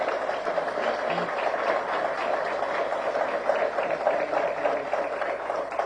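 An audience applauds the teachers steadily for about six seconds, a dense, even wash of clapping hands that holds at a fairly constant level without any voices over it.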